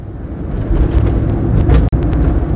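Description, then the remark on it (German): Steady low engine rumble of a car driving, heard from inside with constant road noise and a few faint clicks, uninterrupted apart from a brief dropout near the end. “Wieder saß ich neben Bödefeld im Auto.”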